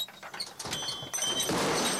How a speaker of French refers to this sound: Hey, c'est quoi ce bruit-là? Le moulin! Quand le moulin va trop vite, il y a des risques d'explosion, monsieur, à cause des particules dans l'air.